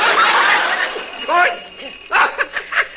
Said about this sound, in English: Somebody got their finger on the doorbell.